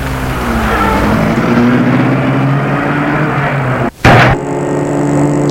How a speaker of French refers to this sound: Il met la voiture en route.